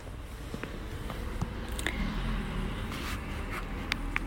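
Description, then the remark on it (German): A car drives past, a low rumble swelling in the middle and easing off again, with a few small clicks and ticks scattered over the steady outdoor background. “Ja, genau jetzt, wo auch mal ein Auto vorbeifährt.”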